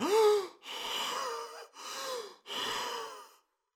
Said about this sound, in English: Henry fell back, holding his chest, gasping for air.